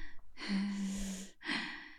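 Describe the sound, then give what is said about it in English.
A person imitates a sleeping baby's breathing: a long, slightly voiced, snuffly inhale, a brief pause, then a breathy exhale. No talking. “And the not breathing thing that they did as babies. Just this, you're listening to a little sleeping baby.”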